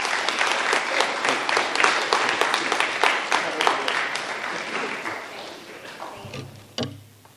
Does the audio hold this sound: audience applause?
yes